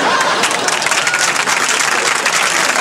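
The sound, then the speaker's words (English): A large baseball stadium crowd roars and applauds after a home run in a steady, dense wall of sound, loud and continuous throughout, with clapping crackling through the cheering and no clear voices standing out. “We've tried to change those crowd noises.”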